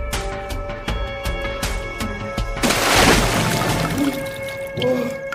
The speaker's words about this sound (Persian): بابا آب نریز، بابا آب نریز، آخ آب نریز، بابا من آب خوشم نمیاد، آب نریز